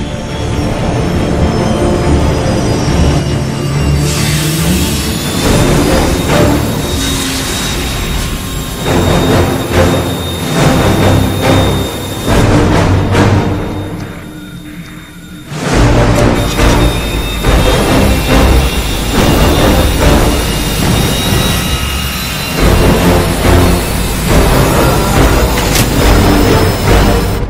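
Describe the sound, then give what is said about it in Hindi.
A loud backup engine roars to life and runs steadily with a high mechanical whine over a heavy rumble, briefly dropping off midway before surging back at full strength. “Backup engine start हो गया है।”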